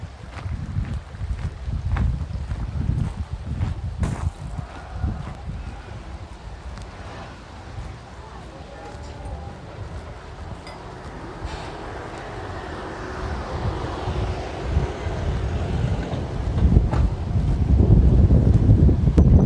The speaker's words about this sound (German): Wasserfall wird hinter mir gelassen.